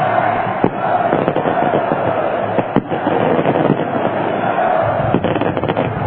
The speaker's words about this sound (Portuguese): Agora sim, taça levantada de forma apoteótica com 17 mil bugrinos aqui no estádio Brinco de Ouro da Princesa. A festa é incrível, os torcedores soltam o grito preso na garganta: é campeão!